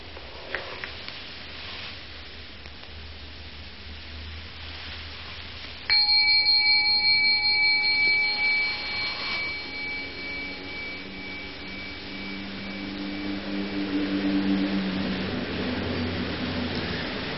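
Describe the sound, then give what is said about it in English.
After a stretch of low steady rumble, a single bell strikes with a bright, ringing tone whose overtones hum on for a few seconds and slowly fade, leaving a soft drone. “You see, the bell came out of nothing, floated off, off, off, off, and then stopped being a sonic echo and became a memory, which is another kind of echo, a wake.”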